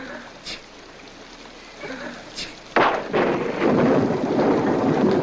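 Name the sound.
rain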